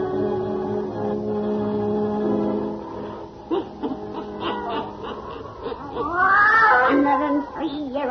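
Satan, the black cat of old Nancy, the Witch of Salem, in The Witch's Tale, yowls in a long, drawn-out wail, then gives a series of shorter meows and rising, falling cries, loud, with no talking.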